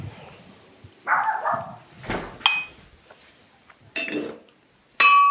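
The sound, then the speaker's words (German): The neighbours' dogs bark a few times, short sharp yaps coming in irregular bursts about a second apart, with a faint clink in the background and no talking. “Wenn die Nachbarhunde bellen,”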